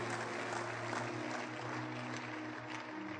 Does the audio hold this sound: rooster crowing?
no